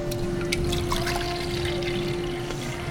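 Water pours steadily into a bowl of waffle mix for a few seconds while making batter for ice cream cones, a continuous splashing trickle with a faint steady hum underneath and no one speaking.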